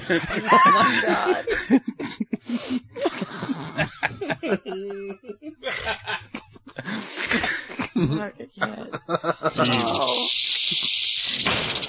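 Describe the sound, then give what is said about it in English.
Excited talking and snickering laughter give way to a loud, steady, breathy hiss that holds unbroken for the last couple of seconds. “It hisses at you.”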